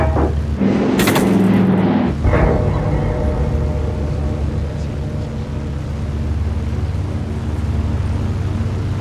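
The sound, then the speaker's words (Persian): Two loud, sharp bursts of gunfire crack out in the first few seconds, aimed at a passenger aircraft in flight, then fade, leaving the steady droning engine hum of the aircraft cabin running underneath. “دارن تیراندازی میکنه.”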